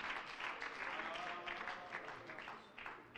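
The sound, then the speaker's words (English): A church audience claps during a service, giving God a hand clap. The applause is steady and sustained, many hands overlapping into a dense, continuous patter with a faint murmur of voices underneath. “If anybody's getting any help in here, would you just give God a good hand clap here this morning, this afternoon?”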